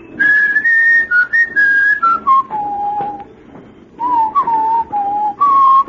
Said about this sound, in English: Then he breaks forth into a whistle.